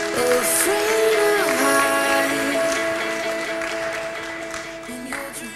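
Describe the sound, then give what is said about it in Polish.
An audience at the Imagine Cup 2016 national finals in Poland claps steadily and fairly loudly throughout, welcoming the VIP jury chair from Microsoft, the applause blending with tonal music playing at the same time, with no one speaking. “Brawa, brawa.”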